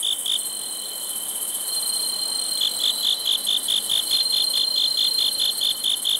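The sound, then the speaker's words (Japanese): Bell crickets (suzumushi) kept at the Iwakiri Civic Center in Sendai, Japan, chirp in a steady, rapid series of bright, ringing pulses, with a continuous high insect trill behind them; clear, no voices. “仙台市の虫としても知られるスズムシ、自然ではなかなか見つけることが難しくなりましたが、そんなスズムシを飼育している岩切市民センターにお邪魔して鳴き声を録音させていただきました。”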